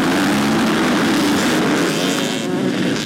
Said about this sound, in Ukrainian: Десятки мотоциклистов, разрезая воздух ревом моторов и поднимая клубы пыли, выезжают на старт. Впереди одна из самых сложных трасс открытого Кубка Донбасса – Аисты.